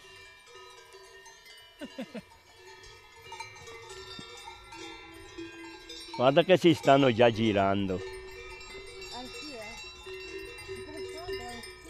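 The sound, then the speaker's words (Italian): Bells worn by grazing livestock clank and jangle throughout, with a loud burst of rapid ringing from several bells together in the middle, while people talk and animals bleat faintly. “Le campane, c'è il tè o le scelgono? No, le mettiamo noi perché dopo loro si sentono e si corrono dietro.”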